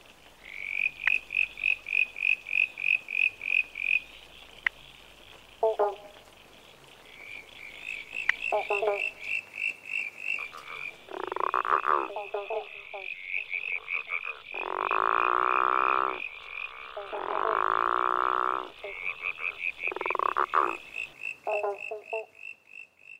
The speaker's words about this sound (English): Have a listen to the following chorus of frogs and see if you can hear each of the five frogs that we've talked about today.